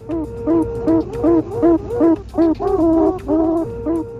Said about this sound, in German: Zu hören ist ein Wechselgesang zwischen Bienenköniginnen, aufgenommen mit Hilfe eines Laserdoppler-Vibrometers, der allerfeinste Schwingungen auf der Wabenoberfläche registriert und hörbar macht.